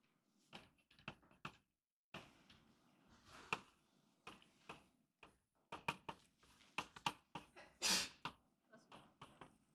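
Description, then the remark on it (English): A single sharp sneeze bursts out near the end, loud, amid a scattering of quick clicks and taps throughout; no one speaks. “Bless you.”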